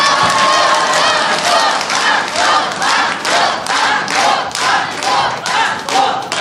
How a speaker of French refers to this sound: Les 1000 francs du banco que nous lui offrons de la part de France Inter sous les acclamations de Rocamadour, Grana et tous les environs.